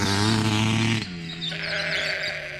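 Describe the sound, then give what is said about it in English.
Wether sheep, mustered to the sheepyards beside a woolshed, bleat loudly without a break, one strong wavering baa giving way to overlapping calls from several others, with no talking. “We had spent much of the past week mustering elusive wethers to the sheepyards adjoining the woolshed.”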